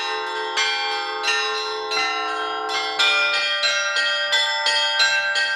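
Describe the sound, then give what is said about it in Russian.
A set of church bells played by a bell ringer in a workshop, rung in a steady, repeating pattern, with bright overlapping strikes roughly every half second and long ringing tones sustaining underneath, loud, no voices. “Просто очень люблю играть на колоколах, музыку слушать.”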